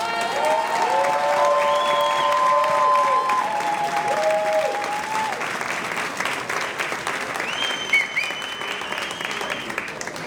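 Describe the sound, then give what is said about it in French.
A large crowd applauds steadily for about ten seconds to welcome a speaker, a dense, sustained roar of clapping with a few whistles and cheers rising above it early on. “Je vous demande de l'accueillir sous un tonnerre d'applaudissements”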